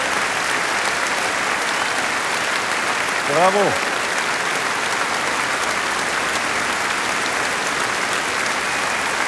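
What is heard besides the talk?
audience applause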